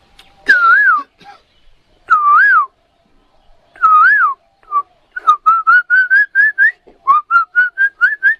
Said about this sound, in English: Just like if you listen early in the morning, every once in a while, I'm not hearing so much yet. When it gets a little warmer, then they'll start singing very, very loudly and very frequently. But you'll hear this kokila.